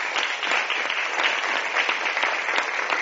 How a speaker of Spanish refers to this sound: Amén, le damos un aplauso a Jesús. Amén. Gloria a su nombre.